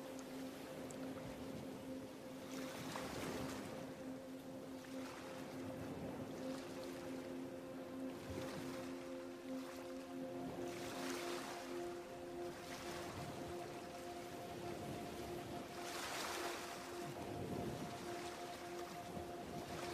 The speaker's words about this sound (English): allowing whatever is to simply be as you relax more and more deeply into the peaceful sound of the ocean.